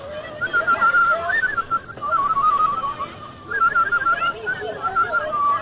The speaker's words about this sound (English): I hope I can still whistle.